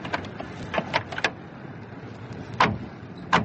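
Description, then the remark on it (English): People climb out of a car: clicks and rustling shuffles, followed by two solid car doors thudding shut, a fraction of a second apart. “This is where we leave the car.”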